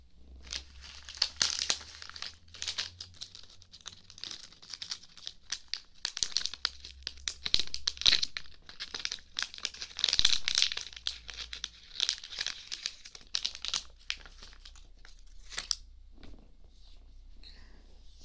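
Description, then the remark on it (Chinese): Someone rummages through a drawer for cotton swabs, producing a steady stream of crinkly rustling and light scraping with occasional sharper clicks, with no talking throughout. “棉棒的话，抽屉里面应该就有的。嗯，等我找一下。”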